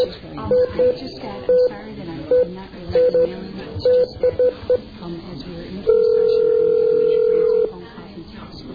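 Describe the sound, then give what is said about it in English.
A string of about ten short telephone keypad beeps pressed at an uneven pace, dialing 8 to get an outside line, then a steady two-second phone tone, with a voice speaking briefly underneath. “9 or 8? Is it 8 or 9 to get out?”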